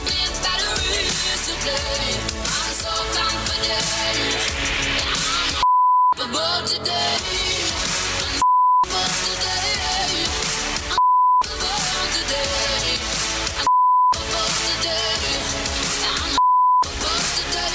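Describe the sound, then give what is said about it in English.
A loud pop song plays while five short, steady censor bleeps cut in at regular intervals, each briefly replacing the music with a single pure electronic tone. “And that my brain takes it there every time, every beep.”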